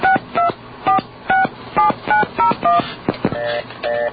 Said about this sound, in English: Oops. Is there a dial tone there? Yeah, you hear the dial tone.